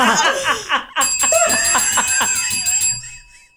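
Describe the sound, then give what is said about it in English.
A small bell rings brightly and keeps sounding for a couple of seconds, its clear metallic tone lingering over laughter and chatter before fading out. “Where's my bell?”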